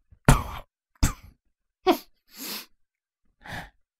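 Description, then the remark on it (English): A few weak, raspy coughs, five short bursts spread unevenly over a few seconds, the later ones breathier and softer, with no talking: an injured person in bed tries to laugh, but it comes out as a weak cough. “Chrysalis went to laugh, but it came out as more of a weak cough than anything”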